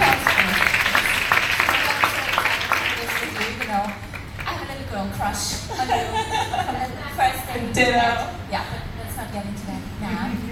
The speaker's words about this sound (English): Yes. Yeah, applause.